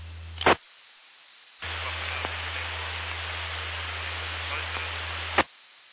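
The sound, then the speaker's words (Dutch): A very faint amateur radio transmission buried under loud hissing static, a brief burst then a longer stretch of noise that starts and cuts off with sharp clicks over a low hum. “Ja, die laatste die op luisteren was, de modulatie is heel erg zacht.”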